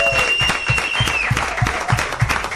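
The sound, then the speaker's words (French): An audience applauds steadily at a Jungle Fight event held in the brand-new technical hotel school in Monaco, a dense crackle of many hands clapping together with a few louder, rhythmic claps standing out at a regular beat, and some faint whistles or cheers rising above. “Là je crois qu'on peut applaudir tout le monde parce que c'est un endroit absolument magnifique.”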